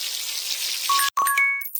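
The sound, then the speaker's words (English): A steady, hissing spray of shower water runs throughout, joined in the second half by a few short, bright chiming tones, with a brief dropout partway through. “Shower time.”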